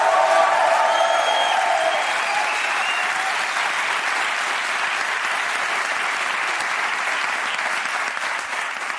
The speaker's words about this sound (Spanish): un aplauso para Ricardo y Grison, que están por aquí